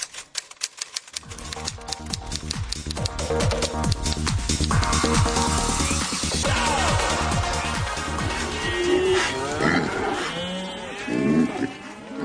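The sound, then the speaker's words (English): Farmyard animal calls, bending and wavering in pitch, rise over a loud, steady trance music beat toward the end, following a burst of rapid typing clicks at the start. “And then some farmyard animals.”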